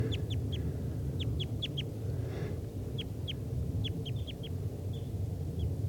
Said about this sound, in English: And there's two wild type 2 crossbills here in the trees near the net. This is them calling.